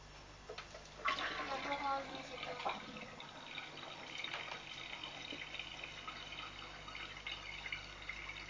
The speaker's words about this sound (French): Prends une autre bouteille. J'aimerais bien un peu mettre de l'eau chaude dans celle-là parce que. Elle va mousser encore plus fort.